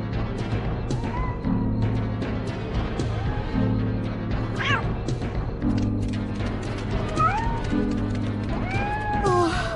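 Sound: cat meowing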